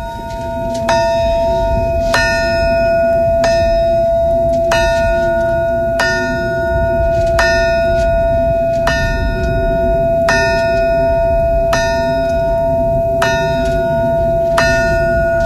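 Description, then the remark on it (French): The Chernobyl memorial alarm bell at a monument is struck steadily, its clapper missing: about a dozen evenly spaced clangs whose bright tones ring on and overlap, loud over a constant low rumble of wind or outdoor noise. “C'est le toxin de Tchernobyl.”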